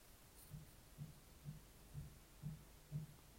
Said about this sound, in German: Okay, das Rauschen ist ausgegangen, es klopft. Ich weiß nicht, hört ihr das, könnt ihr das hören?